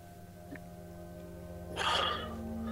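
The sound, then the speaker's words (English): A man having a panic attack during an interview draws one sharp, heavy breath, fairly loud, over a steady low electrical hum. No one speaks. “And then, as things escalate, with his breathing increasing, he does something incredible.”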